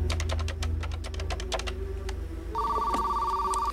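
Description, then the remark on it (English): Rapid typing on a computer keyboard clicks away for a couple of seconds, then stops as a steady electronic telephone ring sounds out, fairly loud, with no one talking. “Looking exasperated, she takes the disc out of the computer, then walks over to a phone.”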